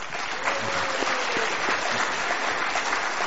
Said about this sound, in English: Thankful for their time. Round of applause for our staff.